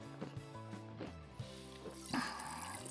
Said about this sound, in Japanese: ちょっと炭酸飲みます、 うん、 いきなり。